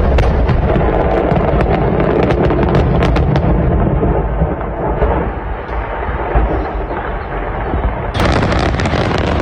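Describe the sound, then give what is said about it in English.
Stockpiled fireworks going off inside a house: a relentless, loud barrage of fireworks exploding all at once, dense crackling and overlapping booms with no pause, roaring on for the whole stretch without any voices. “go to a 4th of July event fireworks in a house. Oh. They went off.”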